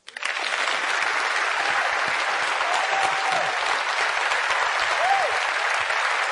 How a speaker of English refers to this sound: Round of applause of a lifetime.